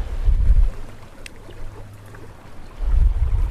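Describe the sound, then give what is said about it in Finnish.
Wake water gurgles and sloshes steadily behind a sailboat sailing east and tacking into an east headwind on a sunny early-summer day, swelling in low rumbling surges at the start and end, with a soft windy hiss throughout and no voices. “perävana vaan tuossa solisee veneen perässä, kun tässä purjehditaan kohti itää vasta tuulessa, itätuuleen.”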